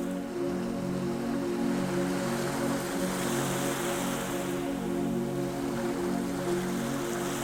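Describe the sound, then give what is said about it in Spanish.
Sea waves make a steady, continuous hiss and wash with no clear breaks, under a low droning hum; no one speaks. “Puedes escuchar el mar con mayor nitidez,”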